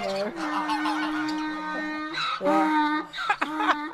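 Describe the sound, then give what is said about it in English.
A flock of geese reared on a farm in County Limerick for Christmas honks loudly, with overlapping harsh, nasal calls that come in repeated bursts, some drawn out and others short and clipped. “She not only cooks a goose for Christmas, but she rears a flock of them in preparation for the celebrations.”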